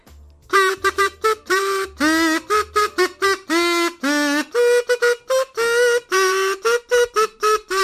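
A buzzing, kazoo-like tone played in quick separate bursts: a voice sung through a nunalca, a simple folk instrument made of corn husk or reed with thin paper stretched over it, giving a nasal, reedy, honking timbre with a clear melodic line of short and held notes, in Rogatec.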